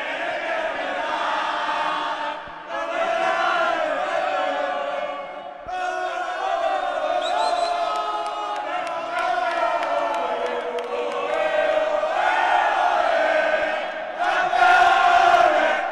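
A large crowd celebrating Club Deportivo Baloncesto Cabra's title win in a provincial basketball derby in southern Córdoba loudly chants "champions" in unison, voices rising and falling in rhythmic phrases that carry on without pause for about sixteen seconds, with a brief dip before swelling again.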